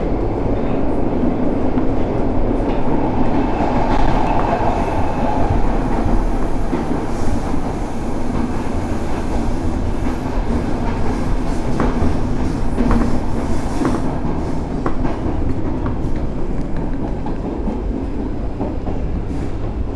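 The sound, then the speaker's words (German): A Stockholm metro (tunnelbana) train heading to T-Centralen station rumbles steadily along the rails, a loud continuous roar with faint rhythmic clicks from the wheels and occasional metallic squeaks. “Umsteigemöglichkeiten zu allen Linien der Stockholmer U-Bahn.”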